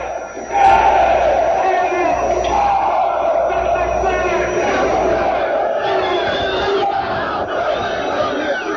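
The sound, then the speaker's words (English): A large crowd roars and shouts responses to a speaker together in loud, sustained bursts of voices, a dense wall of yelling that swells and holds for several seconds without letting up. “He's just gotten several very loud responses from the crowd.”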